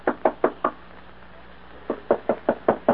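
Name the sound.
knocking on a door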